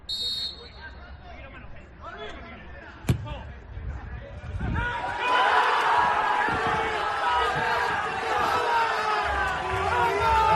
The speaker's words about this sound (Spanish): A que parece que hay público. Son los jugadores que están en el campo y los jugadores que están en la grada, más los empleados que gritan incluso más.